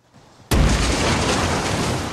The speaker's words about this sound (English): The plane hits the ground.